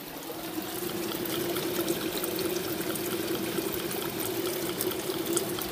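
Steady trickling water runs continuously, with many small splashes and patters layered into a constant wash, dripping down in a small cave-like outcrop off shale over a layer of coal and onto a pile of leaves on river rock.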